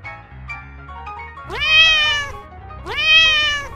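Two drawn-out cat meows, each rising then falling in pitch, spaced about a second and a half apart, fairly loud over a quiet background of soft low tones.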